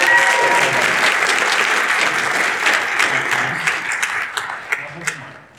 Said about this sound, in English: Quick round of applause for Ellie.